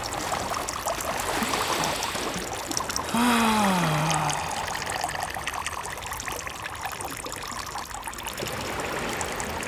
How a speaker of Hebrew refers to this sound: רטוב כולי, מכף רגל ועד ראש, במי גשם ומי ים, בתחת חשוף כשהמכנסיים והבוקסר מופשלים עד הברכיים, השתנתי לתוך הים התיכון בשטף חזק ויציב.